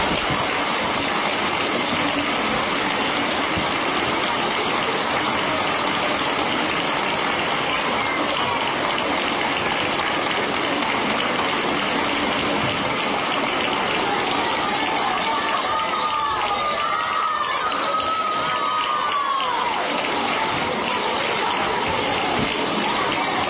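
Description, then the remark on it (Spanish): A crowd erupts into thunderous, sustained applause as the Sagrada Cena procession float enters Santa María, recorded by the COPE radio network: a dense, steady roar of clapping, with cheers and a few high whistles rising through it near the end. “pero sí el sonido recogido por la cadena COPE del momento en el que entra el paso de la Sagrada Cena por Santa María, que fue una explosión, como vais a escuchar.”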